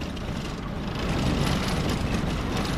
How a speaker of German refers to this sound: Mit dem Auto geht es weiter ins Landesinnere. Vorbei an der Allee des Baobab, einer der bekanntesten Sehenswürdigkeiten in Madagaskar.